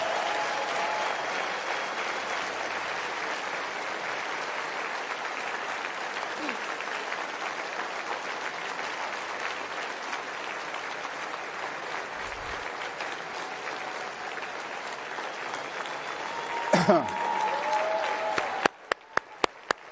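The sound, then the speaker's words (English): A crowd at CPAC applauds steadily for about seventeen seconds, a dense even wash of clapping, then it thins out into a few scattered, sharp final claps. “Well, give her a round of applause anyway.”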